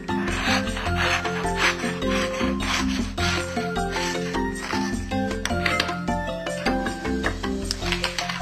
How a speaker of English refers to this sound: And you can see that my paper tissue is a little too big. So I want to trim the paper to size. You don't want too much excess paper, because the wrapping won't look as pretty.